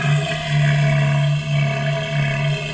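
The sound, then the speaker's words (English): An adult male elephant seal, using its long, trunk-like nose (proboscis), gives a loud, sustained, throaty roar, a deep buzzing drone with a faint pulsing texture that carries through about three seconds without a break and with no talking. “Adult male elephant seals use their long, elephant-like trunk, or proboscis, or nose, to make loud, roaring sounds, especially during mating season.”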